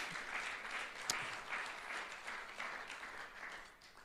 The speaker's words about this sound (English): Hallelujah. Clap your hands to the Lord today.